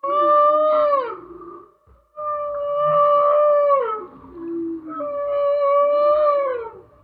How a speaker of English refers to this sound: has spent years researching and taking pictures of whales. He says a song can go on for 20 minutes